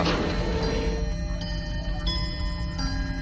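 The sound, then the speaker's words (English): An antique grandfather clock chimes a short intro tune, a few ringing notes struck one after another, each lingering into the next over a steady low rumble. “An antique grandfather clock plays a short intro tune.”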